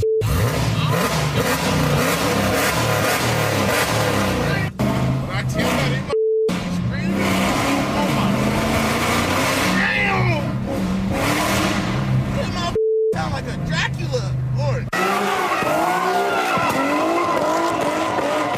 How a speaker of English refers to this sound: Is this what it sounds like? 3 a.m.? This is from his Instagram. This is what the car sounds like when it accelerates. Tell me if it's too loud.